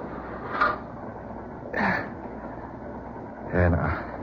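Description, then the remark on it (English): A moving freight train boxcar with an open door gives a steady low rumble throughout, with three brief, louder rattling bursts spaced about a second or two apart. “Boxcar, open door. I made it just in time.”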